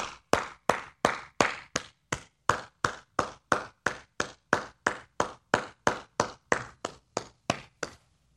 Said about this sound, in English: So, look, pardon me while I stand and applaud.